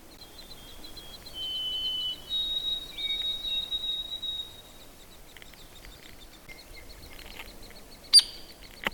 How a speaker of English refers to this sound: You can again hear some of the other background sounds, especially the white-throated sparrows.